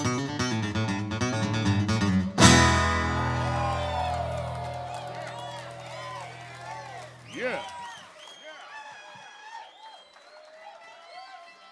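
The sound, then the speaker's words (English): A band finishes its song, then a live audience breaks into loud applause and cheering, with scattered whoops and whistles that gradually fade over several seconds. “Hey, right off the bat, how about another round of applause”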